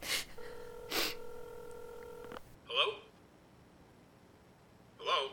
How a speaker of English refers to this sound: Now, take the phone. Tell him. It's ringing. Take it.